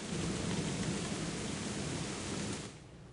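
A thunderstorm with dense, steady rain and a deep rolling rumble of thunder underneath, loud, easing off suddenly near the end. No one speaks.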